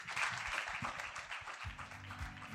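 An audience applauds the panelists at the end of an evening panel discussion, a steady, dense wash of many hands clapping at once with a crisp, bright texture that stays fairly even throughout, no voices standing out.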